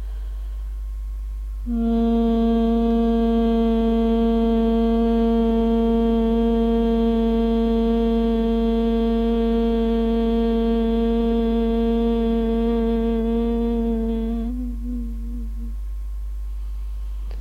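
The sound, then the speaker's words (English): A person breathes in through the nostrils and hums the out-breath smoothly, one long, steady note on a single pitch for about thirteen seconds, full, then lets it fade out softly at the end of the breath during a breathing practice. No talking. “So breathing in through the nostrils and humming the breath out smoothly.”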